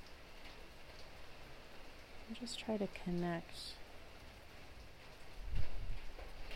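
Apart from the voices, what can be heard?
rain falling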